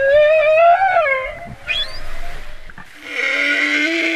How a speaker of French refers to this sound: il a réussi à capturer le chant des baleines, un moment magique dans le grand bleu ultramarin.